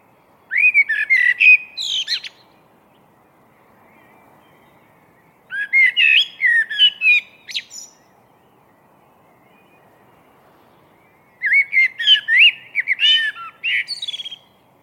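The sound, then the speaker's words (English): A blackbird sings three rich, fluting phrases in chilled pre-dawn darkness, each a couple of seconds long and separated by pauses of quiet, clear against a near-silent background. “This blackbird was singing out of the chilled pre-dawn darkness.”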